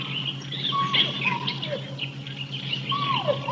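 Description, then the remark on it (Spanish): A dense jungle chorus of birds chirping and whistling over a steady insect drone, with hooting, swooping monkey calls, all continuous and moderately loud with no talking, on a hot day. “Oiga, hay aves, monos, insectos. ¿Quién sabe qué tanto bicho?”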